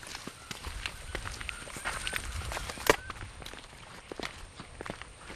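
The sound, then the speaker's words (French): Footsteps crunch steadily through dry, thorny brush in a very dry area, each step a crackly rustle of brittle twigs and leaves, with one sharper snap partway through. No voices are heard. “C'est très sec ici, mais à mesure qu'on marche vers le sud et la rivière, tu vas voir la forêt changer.”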